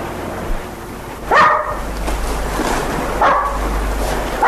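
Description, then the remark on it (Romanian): A small dog out on a walk in a park barks three times, sharp, high-pitched yaps spaced a couple of seconds apart, over a steady rushing background like surf or wind. “prima ființă pe care mi-am apropiat-o la Manderley a fost câinele, micul Jasper”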